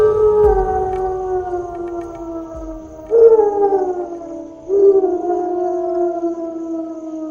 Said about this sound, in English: At dusk, wolves stand on rocks and howl.